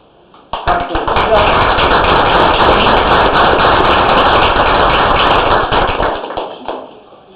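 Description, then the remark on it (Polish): A crowd bursts into loud, sustained applause for a scholarship student with a 6.0 grade average and exemplary behaviour. The applause starts suddenly, holds steady for about six seconds of dense clapping, then tapers off near the end. “Średnia 6,0 i oczywiście wzorowe zachowanie, wielkie brawa.”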